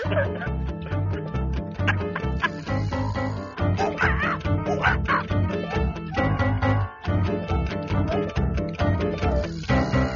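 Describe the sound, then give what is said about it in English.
Penn Jillette imitates a monkey with its mouth full on a radio show, making a loud, continuous stream of muffled yelps, squeaks and chattering grunts with no real words. “The last few monkey sounds that Penn Jillette was doing there were monkey sounds simulating a monkey with its mouth full.”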